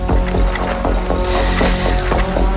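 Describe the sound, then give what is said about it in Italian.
A loud, continuous roar of an artificial stormy sea whipped up over a boat, with heavy waves surging and crashing in quick succession over a deep rumbling wash of wind and water, unrelenting. “Credo che circoscriveremo la tempesta sopra la barca.”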